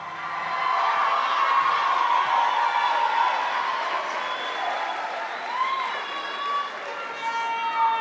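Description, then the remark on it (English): A large crowd at the first graduation ceremony of Success Academy High School of the Liberal Arts cheers wildly in a steady, loud roar of clapping and shouting, with high whistles and whoops rising above the din throughout. “The crowd is going wild.”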